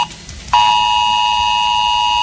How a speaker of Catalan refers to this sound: És l'alarma que activa Protecció Civil en casos d'emergència. Aquest matí, entre les 10 i la 1, es farà el simulacre d'aquest nou sistema d'avisos i passarà a les comarques del Barcelonès, als dos Vallesos, al Maresme i al Baix Llobregat.